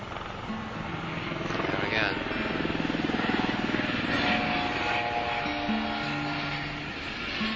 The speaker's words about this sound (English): Helicopter and the plane. That's a busy fucking little airport, eh?